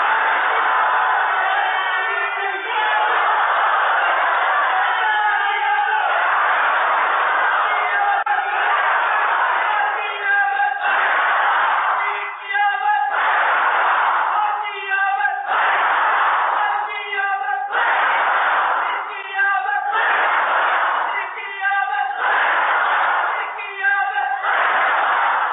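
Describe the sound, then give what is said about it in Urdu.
A large crowd chants "Marhaba" religious slogans in honor of the Prophet Muhammad in loud, rhythmic bursts, many voices shouting together in a steady call-and-response pattern that repeats every couple of seconds. “یہ بچہ وہی تھا جس کے لیے ساری کائنات سجائی گئی، یہ بچہ وہی تھا جس کے لیے ابھی آپ مرحبا کے نعرے بلند کر رہے تھے.”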